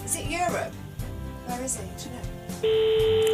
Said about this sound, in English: I don't know by the ringtone, do I? Oh. Oh, hang on, let me have a listen. Yeah, that's Lisbon. Yeah, I can tell, yeah.